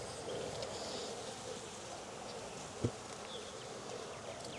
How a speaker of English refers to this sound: I got a bee up my sleeve. Yeah, I think I just had her sting my arm because I had to shake her out.